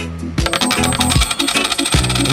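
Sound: coins dropping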